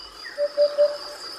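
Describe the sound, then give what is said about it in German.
A hoopoe (Upupa) gives its courtship call: three soft, hollow, low 'oop-oop-oop' notes in quick even succession, clear, over a steady thin hiss of insects in the background. “Upupa heißt lateinisch Wiedehopf. Und jetzt versteht man auch warum. Das ist der Balzruf dieses Vogels.”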